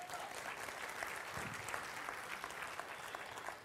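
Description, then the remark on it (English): Steady applause from a church audience welcoming first-time visitors, a dense wash of many hands clapping at an even level throughout, with no speech over it. “Give them a hand.”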